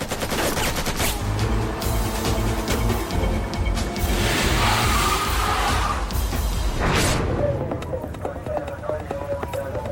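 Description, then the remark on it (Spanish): A long, loud burst of rapid gunfire rattles off in dense volleys for several seconds, harsh, shot along the floor-level black stripe of a typical school bus, with indistinct voices underneath before the shooting trails off. “Dispararon justo a lo largo de la banda negra del típico autobús escolar, la que se encuentra a nivel del piso, de modo que incluso las personas que se estarían escondiendo para cubrirse habrían recibido disparos desde el otro lado del autobús.”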